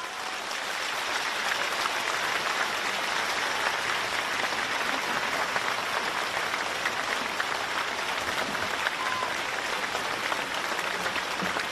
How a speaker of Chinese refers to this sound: 现在让我们用最热烈的掌声恭请尊敬的卢军宏台长。